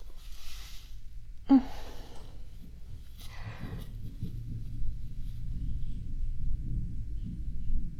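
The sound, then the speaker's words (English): Low, rolling thunder rumbles steadily throughout, swelling slightly toward the end, with a brief sharp click early on and a few soft breathy hisses above it. “Or maybe that's still thunder.”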